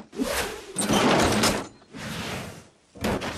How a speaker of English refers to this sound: Clyde, scrap the caddy. Clyde rips off the driver's door of Scarf's car.